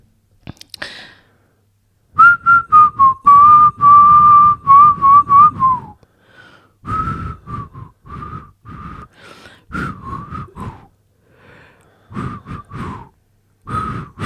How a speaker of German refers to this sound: Oh Mann, am Anfang konnte ich richtig gut pfeifen. Hast du es gemerkt?